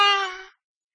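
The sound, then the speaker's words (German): A voice imitates girls shrieking with one short, shrill, high-pitched squeal that starts loud, fades over about half a second and then stops, leaving silence. “und die jungen Mädels, die haben damals schon gekreischt.”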